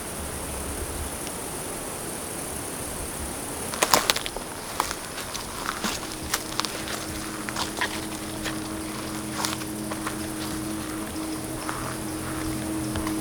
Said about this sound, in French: Une clairière entre le chant des insectes et les derniers sifflements d'oiseaux.